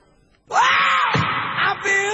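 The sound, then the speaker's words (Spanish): A loud, drawn-out shout bursts in after a brief moment of quiet and holds for nearly two seconds, wavering in pitch with a short dip before carrying on, forceful. It opens the radio show 'Tiempo de show' on Del Plata. “Ya arrancamos con un grito.”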